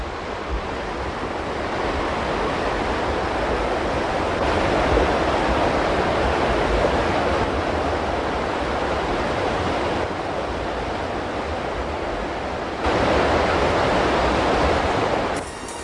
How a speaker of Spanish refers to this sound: Y otra vez al Tajo, al río Tajo, que sigue combatiendo contra la tierra que lo aprieta, lo atosiga, y en esa lucha remansa a veces sus aguas y se desofoca del duro itinerario que atraviesa.